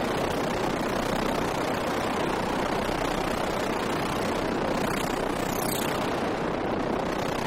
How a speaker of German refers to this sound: Eine fliegende Untertasse, oder? Ja, das ist natürlich Klang oder ein Geräusch von einem Ort, an dem es spukt. Erzeugt wird das vom sogenannten Dirt Synth, mit dem hat unsere Buchautorin Kristen Galanau diese Aufnahmen